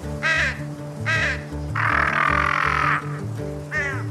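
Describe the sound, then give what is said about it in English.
A crow caws a few times, short harsh calls followed by one long drawn-out caw and another brief call, over a steady low humming background. “Did you hear that? It was saying it may rain soon.”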